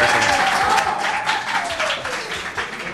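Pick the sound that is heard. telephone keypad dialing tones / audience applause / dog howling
audience applause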